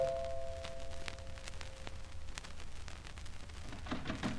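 A door chime at the door of a flat rings softly, its sustained tones lingering and fading over the first two seconds, with a few faint clicks and a steady background hiss afterward.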